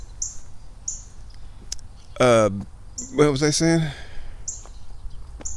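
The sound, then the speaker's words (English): Short, high chirps of a blue jay repeat every second or so outdoors, while a person briefly speaks in the middle over a low background rumble. “Because you know me, I got a lot of burb friends. And there goes a blue jay.”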